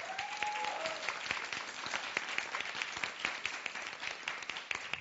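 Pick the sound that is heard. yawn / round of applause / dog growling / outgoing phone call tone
round of applause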